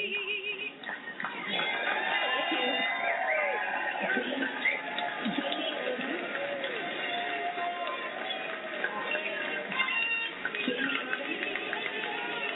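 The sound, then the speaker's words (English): A loud, dense crowd cheers and roars without letup, nearly drowning out a woman speaker's last line underneath; the sound is thin and tinny, like a phone recording. “Like I said, that last line in there was pretty much obliterated by the crowd.”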